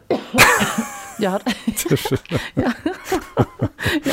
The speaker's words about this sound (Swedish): Har du hållit inne på den där hostan nu? Om du har tyckt att jag har suttit och pratat i falsett så är det för att jag har hållit inne med det. Men, du vet, ett enda host.